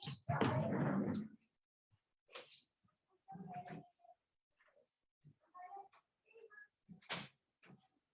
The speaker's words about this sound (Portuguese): Peraí, gente, dá um minuto aqui que eu vou fechar a porta aqui para ter um pouco menos de ruído.